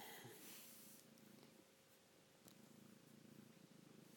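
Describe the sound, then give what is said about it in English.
A cat purrs steadily in the early evening, a low rhythmic rumble that continues throughout with a faint hiss of background noise and no voices. “Birds still singing, and I'm feeling as content as this kitty cat.”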